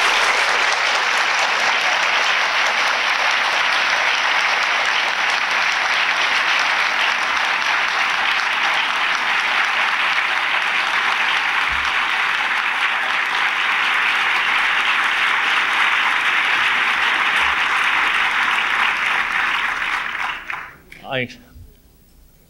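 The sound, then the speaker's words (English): Sustained audience applause for news that the book The Tempting of America had jumped from number 12 to number 4 on the New York Times Book Review bestseller list. A dense, steady wash of clapping holds at an even loudness for about twenty seconds before fading out quickly at the end. “I feel what you feel with that applause, you may believe.”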